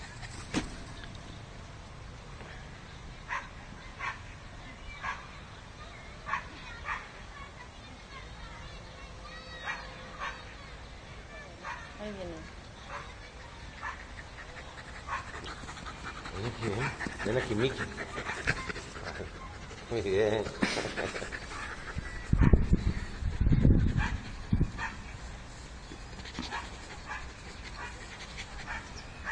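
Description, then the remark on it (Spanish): A pet dog, black as a puppy and now blondish, pants steadily throughout, with occasional whimpers and a few loud barks clustered toward the end, while a person's voice murmurs faintly in the background. “pues ese es mi perro Miki”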